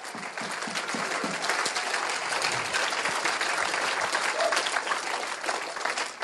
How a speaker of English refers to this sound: Oh, let's clap the Lord, shall we? He's wonderful.